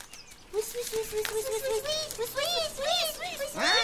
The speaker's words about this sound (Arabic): أيها الثعلب، أين أنت؟ لماذا تصرخ الأفراخ؟ أين أنت؟